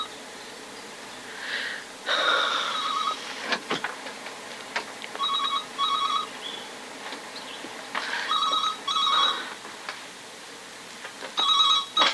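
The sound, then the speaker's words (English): A telephone rings in repeated double bursts of bright, trilling bell tones, clear, with short pauses between rings and faint background rustling and clicks. “Oh, the phone's ringing, Mum.”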